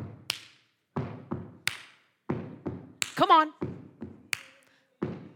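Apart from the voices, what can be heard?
stomping feet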